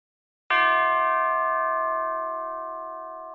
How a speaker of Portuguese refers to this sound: O sino que rola lá no começo dessa música é uma parada que eu sempre gostei muito de ouvir em músicas, né?